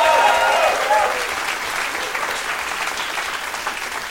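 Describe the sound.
An audience claps steadily for several seconds, a dense wash of many hands applauding together, fairly loud and close, with faint voices or cheers at the start before settling into even clapping.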